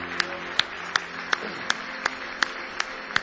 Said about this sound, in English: Give Jesus another big hand clap of praise.